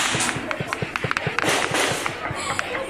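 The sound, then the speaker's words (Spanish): Rapid, overlapping bursts of gunshots crack out continuously in crossfire during an armed clash between criminal groups in Chiapas, Mexico, some sharper than others, as a steady background commotion fills the space between shots. “En otro video difundido en redes sociales, pobladores de Chiapas se tiran al suelo en fuego cruzado.”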